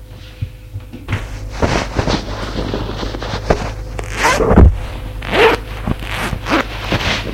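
A man undresses in his bedroom: clothes rustle and shift, and a zipper is pulled open in a few quick rasping strokes, with soft thumps of fabric. No one speaks.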